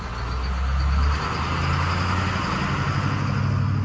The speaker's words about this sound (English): 2 hours later, this old yellow school bus with about 50 workers on board arrives at a chili field near Hatch. The workers jump out, grab big plastic buckets, and fan out across the field.